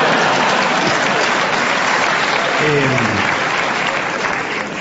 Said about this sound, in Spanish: Hay gente grande en la sala, los que aplauden.